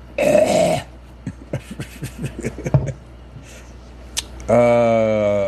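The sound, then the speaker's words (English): A sick person gives a harsh cough at the start, followed by faint scattered clicks and rustles, then a loud, strained, throaty cough-like rasp near the end. “Bill Gates got me coughing.”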